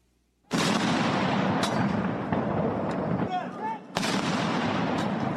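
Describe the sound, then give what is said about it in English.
Two loud cannon shots fired a few seconds apart by Japan's Self-Defense Forces as part of a 19-gun salute at the state funeral of former Prime Minister Shinzo Abe in Tokyo, each blast followed by a long, rolling boom that echoes and rumbles outdoors. “Members of Japan's self-defense forces fired cannons in a 19-gun salute as Abe's widow, Aki Abe, carried the late leader's ashes to a funeral ceremony.”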